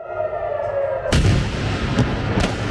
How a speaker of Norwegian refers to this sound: Og Israel og Iran har holdt fram med å angripe hverandre gjennom natta, og det har vært eksplosjoner flere steder i begge landa.